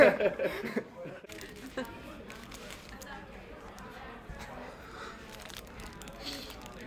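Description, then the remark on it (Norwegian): Someone chews an Aunt Mabel muffin with a steady run of soft, mushy, crinkly mouth noises, opening with a louder burst, while voices and a few chuckles murmur underneath. “Hvor mange tygg tror dere trenger på en Aunt Mabel muffins?”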